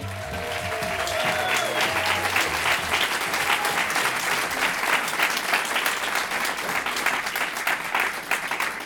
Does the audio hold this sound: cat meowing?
no